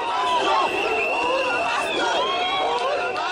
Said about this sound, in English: Supporters of Odinga poured into the streets, cheering and waiting for another chance to elect their candidate.